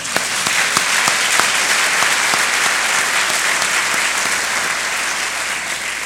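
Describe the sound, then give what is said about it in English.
Sustained audience applause for Ezra Cornell at a Cornell joint annual meeting, a dense wash of many hands clapping at steady loudness throughout, with a few sharper individual claps standing out near the start and no voices. “Can we just get another round of applause for Ezra Cornell?”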